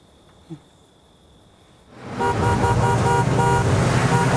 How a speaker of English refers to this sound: his truck races through the town and skids to a halt in front of Belmont's pickup